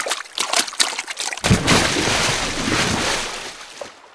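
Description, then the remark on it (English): An elephant, Ku, splashes water on her back with her trunk in a river: a few quick splashes, then a sustained rush of water pouring and spattering for several seconds, with no talking. “She makes a loud noise and splashes water on her back with her trunk.”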